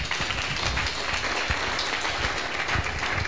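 A crowd applauds a man steadily, many hands clapping in a dense, continuous patter that holds at an even loudness for a few seconds, with no voices standing out.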